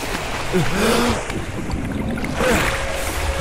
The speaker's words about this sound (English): And that's really all we can listen to, because the video just shows a water flooding down what looks like Boylston Street, and it looks like there's a person struggling to get above the water, and it asks the question, when the next superstorm hits